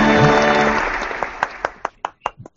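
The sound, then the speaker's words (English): An applause sound effect: a burst of dense applause from many hands that quickly thins out into a handful of separate, sharp claps before fading to silence. “We got good sound effects.”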